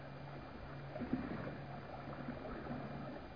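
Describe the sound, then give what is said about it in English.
Moro boatmen paddle a heavily loaded boat against the swift rapids of a narrow river where it boils out of a gorge through a mountain range; paddles splash steadily, strokes falling in a loose rhythm over a constant churning wash, with a sharper slap near the middle. No voices. “Listen to the Moro boatmen as they paddle their heavily loaded beaver against the swift rapids of the narrow river.”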